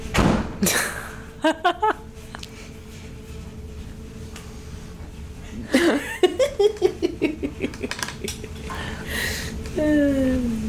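A door is shut quickly with a few sharp thuds, then a burst of rapid rattling knocks dies away, with some laughter mixed in.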